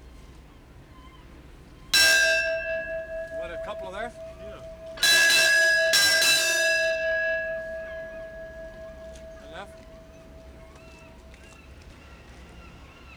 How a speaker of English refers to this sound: You can hear the bell. It's got to have that generator going.